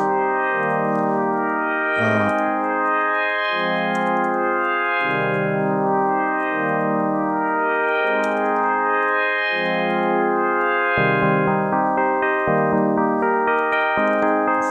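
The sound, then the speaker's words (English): A sustained, harmonically rich synth plays a repeating sequence of notes, each swelling and fading into a washy reverb tail that blurs the notes together, loud and steady throughout with no voices. “What I haven't even shown is that obviously you can use effects, like for instance a reverb.”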